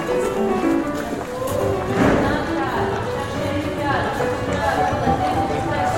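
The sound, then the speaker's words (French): Young horses (foals) move steadily through snow, being made to work together so they get used to working together; their muffled hoofbeats and harness noise blend into a continuous outdoor bustle, with several people talking throughout. “C'est des poulains pour qu'ils s'habituent à travailler ensemble en fait.”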